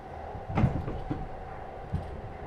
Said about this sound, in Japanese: それじゃドアを開けてご案内です。